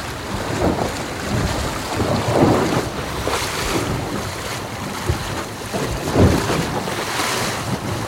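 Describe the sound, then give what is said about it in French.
A 60-foot (18.28 m) sailboat sailing close-hauled at about 9.7 knots in 10 knots of wind with its engine switched off, with steady wind rushing across the microphone and waves washing and slapping against the hull in repeated surges. No one speaks. “Ça y est, on a la voile. C'est du bien que ça s'arrête le moteur.”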